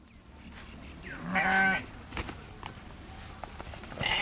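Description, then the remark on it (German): A single sheep bleats once, clear, over a steady outdoor background with faint rustling and shuffling steps, in a gap between two brick huts in a village in Orissa; no one speaks. “Ein Schaf pflügt in einer Lücke zwischen zwei Backsteinhütten.”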